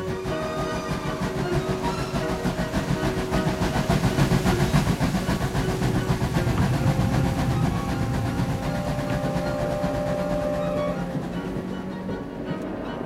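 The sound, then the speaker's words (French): The presidential train pulls away from the Gare de Lyon in the evening of 23 May 1920, bound for Montbrison in the Loire; its steady rumble carries a fast rhythmic clatter and sustained high metallic whines, holding loud for most of the stretch before easing slightly at the end. No voices. “Le 23 mai 1920, le chef de l'État se rend à bord du train présidentiel à Montbrison dans la Loire afin d'inaugurer le lendemain le monument aux morts de la Grande Guerre de la région du Forez.”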